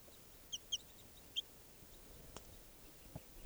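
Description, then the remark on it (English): A juvenile wild bird gives three short, sharp clucking notes in a camp, about 6 feet away next to a truck, then falls quiet against a soft outdoor hiss with a couple of faint clicks. “And the wild bird has come down here in the camp, and it's about 6 feet away from me next to the truck here, looking down at some captives I have.”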